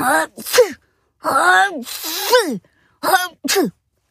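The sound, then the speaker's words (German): A voice acts out three exaggerated sneezes, each a drawn-out breathy build-up ending in a sharp burst, spaced with short pauses and loud. “Klar, dass es da niesen musste. Dreimal sogar.”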